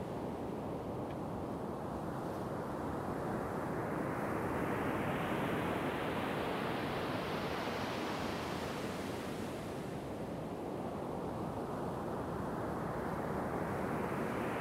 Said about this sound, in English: I'm at my local beach and it's early morning.